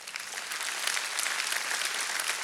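A crowd claps steadily, a dense wash of many hands applauding at an even level throughout, with no voices standing out above it.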